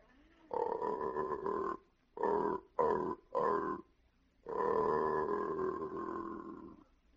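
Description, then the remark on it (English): An aardvark mating call played backwards and slowed down: deep, droning animal grunts, one long moan, three short choppy bursts, then another long drawn-out groan, loud, with no talking. “That was the same mating call, only played backwards and slowed down.”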